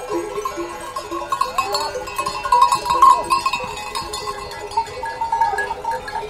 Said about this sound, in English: We descend, finally, to the village of Yubong. Cattle and long-haired yak graze beside whitewashed farmhouses.